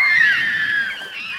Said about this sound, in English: The fish scream.